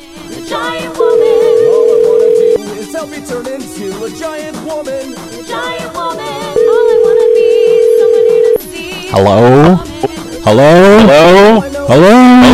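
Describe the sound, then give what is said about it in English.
A steady telephone dial tone, then two long ringing tones of an outgoing call placed through CallCentric to a cell phone, each about two seconds, loud over faint background noise, ending in rising, warbling electronic tones. “I'm going to try and use CallCentric. Maybe that'll work. Let's call my cell phone.”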